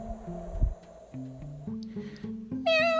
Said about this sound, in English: Chippy tried to hold on to Kitty with his claws. Meow!